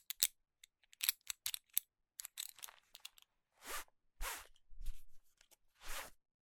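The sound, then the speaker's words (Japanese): A belt being unbuckled and pulled free from a pair of trousers: a quick run of small metallic clicks and rattles, then several longer sliding swishes of the strap, with no voices. “ほら、ベルト外すわよ。”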